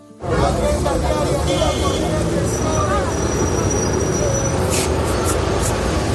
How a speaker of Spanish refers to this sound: Niños saliendo de clase, otros jugando en el parque, coches, autobuses, mayores paseando, algunos sentados en el banco a pasar la tarde, gente que hace recados. Estamos en una zona de edificios residenciales,